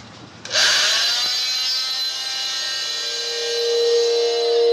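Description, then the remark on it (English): After a brief low rumble, an autopsy saw kicks in abruptly and cuts through bone during an autopsy examination of an adult female body, with a loud, steady, high-pitched whine and grinding buzz that holds for about four seconds. No one speaks. “Commencing section of bone.”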